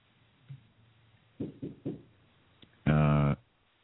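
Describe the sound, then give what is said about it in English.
Three quick, fairly loud knocks on a studio door in a steady rhythm, followed a moment later by a short, loud buzzing tone against a quiet background. “I got to knock at the door, kids, the studio door.”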